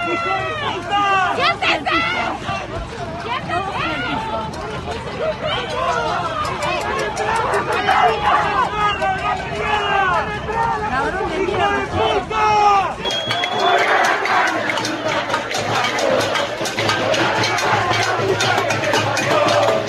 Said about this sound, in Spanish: Escuchemos el bullicio que realizaban, escuchemos un audio, el bullicio, sus gritos, sus alegatos, escuchémoslos un segundito.